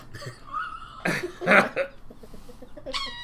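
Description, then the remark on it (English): A rooster squawks in a short, harsh outburst: strained tonal cries at the start and end around two loud, raspy, cough-like bursts in the middle. “It's a rooster of some kind that just got stepped on.”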